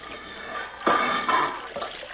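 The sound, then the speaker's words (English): Water rushes and churns steadily into a flooded chamber, surging louder in a few sudden gushes as it pours in, with no voices over it. “Water stop coming in.”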